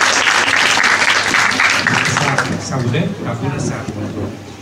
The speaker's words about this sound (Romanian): Aplauze pentru domnul Florin Iaru, care a acceptat să vă mulțumesc.